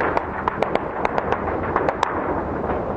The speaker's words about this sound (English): Minutes after the news made its way through the city, gunfire erupted in every corner of Baghdad.